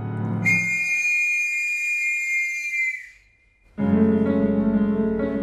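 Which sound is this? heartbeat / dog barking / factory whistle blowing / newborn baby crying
factory whistle blowing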